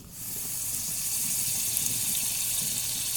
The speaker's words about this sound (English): Yeah, pour in our water along with my wild rice and meat stock.